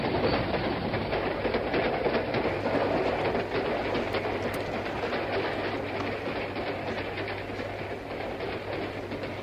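A passenger train pulls away and rolls steadily, with a continuous loud rumble, rhythmic clickety-clack of wheels on rails and a low engine hum underneath. No one speaks.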